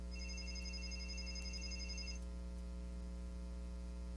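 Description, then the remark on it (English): A telephone rings with a steady, trilling electronic tone for about two seconds, then stops, leaving only a low constant hum. The ring is fairly faint and no one speaks. “And I think I hear a telephone ringing, do I?”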